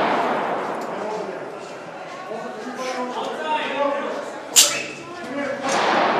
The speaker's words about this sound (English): There's a bunch of gunshots. I saw him coming.